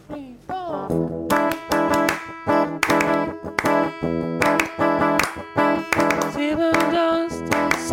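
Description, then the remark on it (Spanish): Steady rhythmic hand clapping by the hosts keeps time with strummed guitar chords demonstrating a rhythm guitar part, the sharp claps cutting through each strum in a regular, upbeat pattern. “Y vamos a escuchar ahora también, y vamos a acompañar nosotros con palmas”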